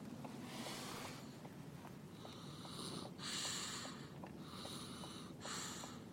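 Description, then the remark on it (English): Breathy snoring with rough snorting rasps that swell and fade in repeating waves, steady throughout and with no one talking. “Well, oh, I gotta get her snore into the back.”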